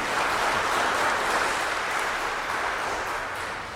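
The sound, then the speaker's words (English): A church audience applauding together for a newly ordained deacon, a dense, steady wash of many hands clapping that holds at an even loudness throughout, with no voices standing out. “How you can clap for the third time.”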